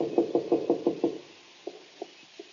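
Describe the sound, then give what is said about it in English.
A quick run of about seven firm knocks on a wooden door, followed after a pause by three or four softer, spaced-out taps. Clear, no talking. “Look, I'll place the coin here, then I'll knock and you can hide just to the side of the door.”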